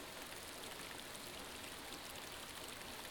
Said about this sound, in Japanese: この雨はきっとあなたの涙。